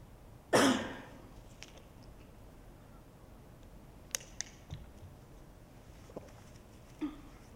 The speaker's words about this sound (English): I'm gonna cough again.